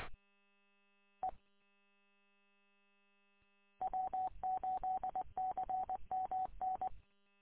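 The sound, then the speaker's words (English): Telephone dialing tones: one short beep, a pause, then a rapid run of about ten clipped touch-tone beeps at a steady mid pitch, fairly loud, with no voices. “I got a phone call.”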